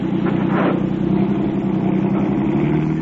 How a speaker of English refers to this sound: he's lying right in front of the car. We can't go ahead. Well, we're not going to back out. We'll run over him.